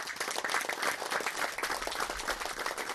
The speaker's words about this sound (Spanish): También otro reconocimiento al compañero Noé. Desde donde él está y donde él esté en esos momentos, sé que nos está mirando. Y con esa sonrisa vamos a darle un aplauso al compañero Noé Vázquez de Amatlán de los Reyes.